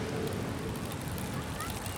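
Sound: wind blowing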